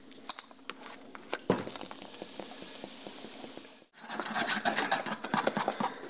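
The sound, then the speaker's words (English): A 10-ounce bottle of club soda is opened to be mixed into a batter: a sharp crack amid a steady crackling fizz, a brief pause, then louder, busier effervescent hissing and popping bubbles. “It's enough to kind of whip it together, and then open the club soda.”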